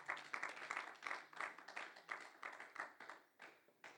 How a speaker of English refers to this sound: Why don't we give the Lord a hand clap of praise today? Amen.